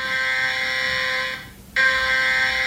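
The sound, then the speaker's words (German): A loud, steady electronic alert tone with stacked harsh harmonics sounds, breaks off briefly, then resumes at full strength: a test warning on a mobile phone, sent at 11 o'clock during a nationwide warning day alongside warning sirens. “Um 11 Uhr ertönen Warnsirenen im ganzen Land und auf dem Handy. Da bekommt man nämlich eine Testwarnung.”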